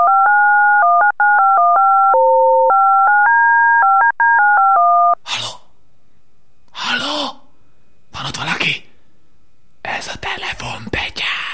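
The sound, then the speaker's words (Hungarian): A quick run of loud telephone keypad tones, about twenty dual-pitched beeps in rapid succession, as someone dials to call a witch, followed by several breathy, whispered bursts of voice with pauses between them. “Semmi, csak egy boszorkányt hívunk föl, és pár kérdést fölteszünk neki.”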